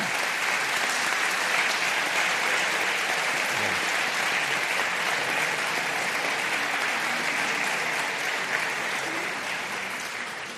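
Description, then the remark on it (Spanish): A steady, dense round of audience applause bidding farewell to Antonio Cañizares and Alfredo Pérez Rubalcaba, many hands clapping at once in a continuous wash that holds even in loudness for about ten seconds before easing slightly at the end. “Para todos nosotros ha sido un gran honor y le vamos a despedir con este aplauso postconciliar.”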